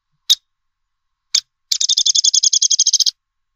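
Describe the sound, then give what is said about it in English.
A downy woodpecker gives two sharp, high 'pik' notes, then a fast, whinnying rattle of about fifteen squeaky notes, clear, with no other sounds around it. “Here's a call, for example, from a downy woodpecker.”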